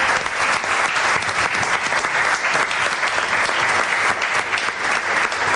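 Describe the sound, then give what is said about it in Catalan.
A steady burst of audience applause for the guests at a live show at Cal Triunfo, Torre d'Oristà, dense and loud with many hands clapping at once, holding an even intensity for several seconds without voices standing out. “Un fort aplaudiment pels convidats, primer.”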